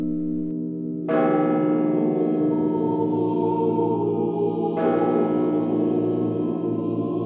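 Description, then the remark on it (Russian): Church bells ring out loud, a rich peal of overlapping tones with two strong new strikes that bloom and sustain into a long shimmering hum. No voices are heard. “И вот когда Петр и Февронья возвращались в родной Муром, встречать их на зеленые берега под колокольный звон вышел весь народ.”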